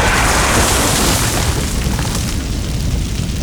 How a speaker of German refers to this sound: Wie eine Lanze aus Feuer fuhr ein greller Blitz in eine Fichte, die nur wenige Schritte von Christopher entfernt stand. Der starke Regen löschte den Brand rasch, das Donnern des Einschlags rauschte noch in Christophers Ohren.